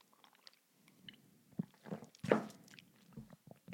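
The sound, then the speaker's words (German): A quick sip of water: soft, wet mouth clicks and smacks, then one louder gulping swallow midway, followed by a few quieter lip and tongue sounds. No one speaks. “Kurz Schluck Wasser trinken.”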